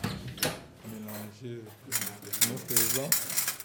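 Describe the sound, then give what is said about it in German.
Surgical clamps and scissors clink and rattle against each other in repeated metallic bursts as an operating-room nurse sorts them in front of the speaker in an operating theatre, while a person speaks over the clatter. “Die Klemmen und Scheren hier vor mir sortiert gerade eine OP-Schwester.”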